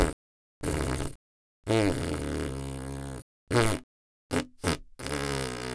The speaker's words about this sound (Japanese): 嬉しいって思えば思うほどおなら出る。臭くてごめんね。鼻ひん曲がるよね。